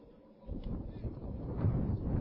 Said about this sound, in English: As you can hear, the wind continues to howl here.